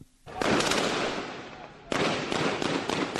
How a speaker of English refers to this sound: Gunshots woke up the residents of Goma's western quarters on Wednesday.